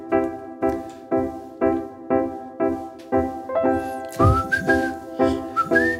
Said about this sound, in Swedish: Ska du vissla? Jag ska vissla lite.